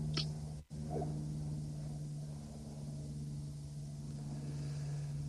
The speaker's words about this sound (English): I'll let the plane pass. Let it dip you into a deeper state.